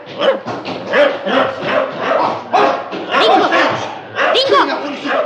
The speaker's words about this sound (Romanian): Dingo! Ei, Negoro, nu-l bate! Ce? Dingo, vino cu acest! S-au luat să rupă pantaloni, nu? Negoro! Îl cunoști cumva pe câinele ăsta?